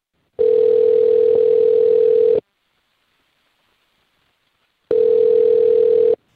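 A telephone line tone sounds while a call is placed by the Mix 94.7 radio station: two long, steady, slightly buzzy tones, each about two seconds, separated by a pause of silence, loud with no voices.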